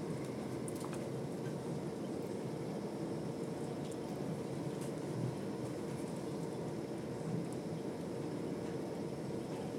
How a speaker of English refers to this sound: it raining? It sounds like it is, but yeah, I can't it sounds see. Like it is, doesn't it? Yeah, I think it might be actually. I can hear something.